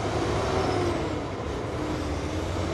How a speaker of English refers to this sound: You're hearing the constant rumble of truck traffic along I-95 near Savannah, where another important interstate also intersects, I-16. This is a major transportation logistics point along the East Coast.